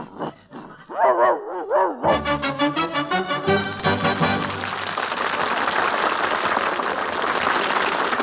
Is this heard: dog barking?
yes